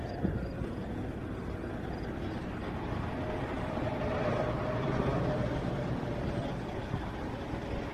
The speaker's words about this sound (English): nice trucks go by.